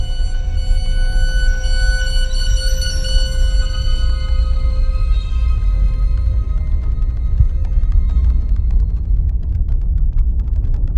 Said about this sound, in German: Plötzlich das Dröhnen von schweren Motoren.